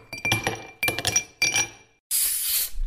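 Ice cubes drop into a glass in three quick clinking bursts, with bright ringing tones, followed by a steady loud fizzing hiss as Coca-Cola pours in. No one speaks.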